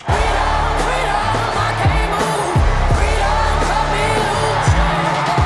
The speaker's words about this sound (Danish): tordnede venstrefløjspolitikeren Alexandria Ocasio-Cortez til enorm jubel